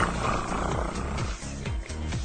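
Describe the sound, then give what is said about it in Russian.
A domestic cat purring, a steady low rumbling buzz at about 26 cycles per second that swells and eases in a regular rhythm with each breath, continuous and fairly loud with no voices. “кот Васька, когда мурлыкает, имеет 26 циклов в секунду”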